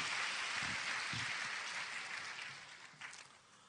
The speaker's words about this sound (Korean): 다시 한번 따뜻한 박수로 격려하십시다.